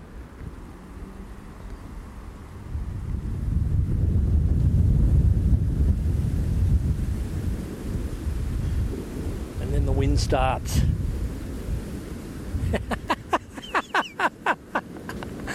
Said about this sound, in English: It's starting to rain on me now. It's building. It's coming. And here it comes.